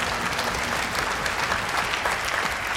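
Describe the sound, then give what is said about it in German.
An audience applauds a participant who correctly named the river Rhine, dense overlapping hand claps forming a continuous wash of applause that holds at an even, fairly loud level throughout. “Applaus für unseren Geografie-Experten”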